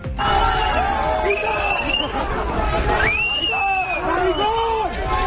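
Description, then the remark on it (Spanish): A loud group of students on the University of Navarra campus shouting homophobic insults at Interior Minister Fernando Grande-Marlaska, overlapping voices rising in harsh chants and yells amid a dense hubbub that continues throughout. “Gritos de maricón dirigido por un grupo de estudiantes hacia el ministro del Interior, Fernando Grande Marlaska, que participaba en unas jornadas organizadas por la universidad.”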